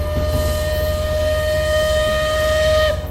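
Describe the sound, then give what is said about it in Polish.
A steam locomotive whistle sounds one long, steady, loud blast for about three seconds over a low rumbling of the train as it slows and pulls into a station, then cuts off abruptly. “Rozległ się gwizd lokomotywy i pociąg zwolnionym pędem zajechał na stację.”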